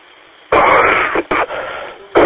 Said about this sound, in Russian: Я извиняюсь, я переболел тут немножко. Это самое... Дико извиняюсь, это самое кашель. Кашель нападает.